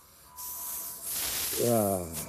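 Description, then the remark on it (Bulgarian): Harsh, sustained hissing of two snakes fighting, one black and huge, the other white and tiny, loud, swelling in bursts over a couple of seconds, with a low voiced, rasping tone rising through it near the end. “Змии бият се.”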